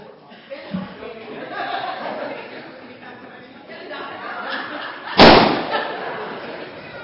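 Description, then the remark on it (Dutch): A single sharp bang near the end as a balloon is stomped on until it pops, over a bed of background chatter and chuckling voices. “En dan hebben we natuurlijk nog een ballon. En die mag jij wel kapot stampen dan.”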